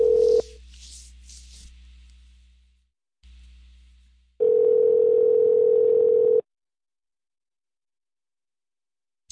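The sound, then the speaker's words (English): A telephone ringback tone heard over the line on a call to a Walmart Supercenter: a brief burst at the start, then one loud, steady two-second ring after a pause of low hum, with nobody answering and no voices. “Will not even pick up the phone.”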